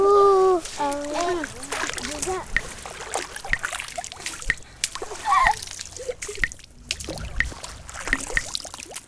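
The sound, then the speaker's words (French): Water splashes and sloshes in repeated irregular bursts as children of about ten wade through the shallow water of a pond near Douai in northern France, their high voices calling out at the start and between splashes. “Dès qu'il s'agit de patauger dans l'eau, les enfants sont les premiers.”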